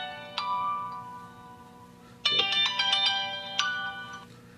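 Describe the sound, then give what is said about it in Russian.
A mobile phone ringtone plays a bright, melodic electronic tune, with distinct note bursts repeating over several seconds; no one speaks. “И это три формы, извиняюсь, я забыл телефон.”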